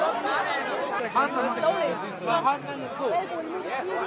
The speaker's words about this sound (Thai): นั่นเป็นเสียงผู้อพยพที่กำลังรอรถไฟเที่ยวจะเดินทางเที่ยวที่จะเดินทางไปที่กรุงเวียนนาประเทศออสเตรียนะครับ